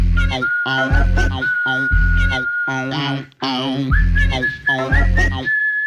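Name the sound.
person whistling a tune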